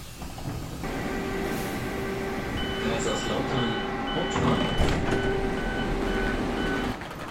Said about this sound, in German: Stattdessen sitze ich eine Woche später im Zug nach Kaiserslautern.